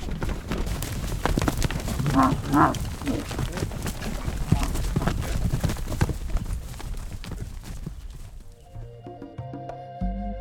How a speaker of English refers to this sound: And with that, the heifers of the Coleraine Dairy were set loose out to pasture. Cow nature. Yeah, you ever seen a buffalo stampede? That's what they do. And it's the only time all season they'll do it. It's their first time out.